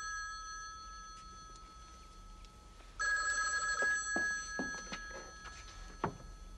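A telephone bell rings steadily at home, starting moderately and growing louder halfway through, with a few soft knocks and thumps over the continuous ringing as a woman puts down her book and hurries from the room to answer the phone.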